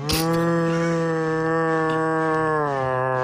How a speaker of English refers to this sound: All right, sperm whale. Let's hear the sperm whale.